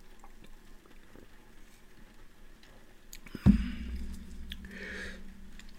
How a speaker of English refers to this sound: Slurp of tea.